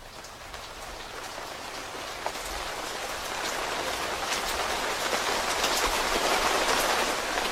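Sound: rain falling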